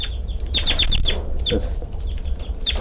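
A caged bird, identified as 3-3, keeps calling while flying around in the cage: a quick run of short, high chirps, then a few more scattered notes, all over a steady low background rumble.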